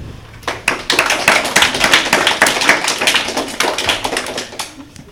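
Audience applause for CE2 school pupils during a class game: a burst of many hands clapping in a dense, steady patter that starts suddenly, holds for several seconds, then thins out toward the end. No one speaks.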